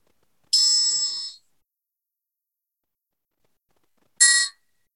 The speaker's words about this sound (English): Now have a moment of silent meditation, and we'll start it in with a chime.